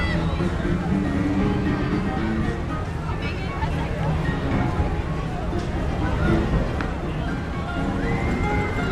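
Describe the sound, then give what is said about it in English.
Dense, continuous babble of a standing-room-only crowd talking at once on a packed boat, steady and loud throughout, with a low rumbling engine-like drone underneath. “Standing room only crowd.”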